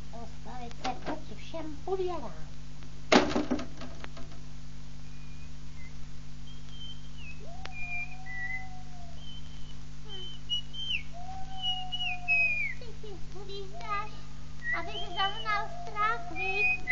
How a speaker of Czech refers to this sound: Ty si hvízdáš, aby si zaznal strach, víš? No prostě si hvízdám, no.